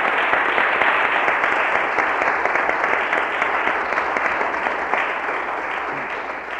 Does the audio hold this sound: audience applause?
yes